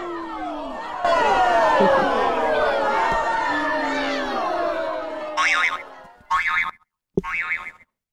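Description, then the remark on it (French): A large crowd, gathered in great numbers and listening to Jesus teach, makes a dense, overlapping murmur that swells in and rumbles steadily, then breaks into a few loud, sharp shouts with short gaps of quiet between them. “Et oui, en fait, ils n'interviennent pas parce que ben, les autorités sacerdotales, elles craignent les réactions de la foule. Qu'on entend.”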